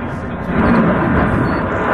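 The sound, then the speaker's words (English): A deep, heavy roar of aircraft from an air and water show passing overhead, a loud continuous rumble that swells slightly after the first half second and holds steady without a break. “They're supposed to be flying these things during the day.”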